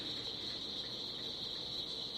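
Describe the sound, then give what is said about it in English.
Swamp ambience at dusk in the Okefenokee Swamp, from a recording series: a dense chorus of crickets forms a steady, high-pitched shimmering drone, unbroken and even in loudness, with a faint low rumble beneath and no voices. “Meanwhile, backing me up right now is … from his … series.”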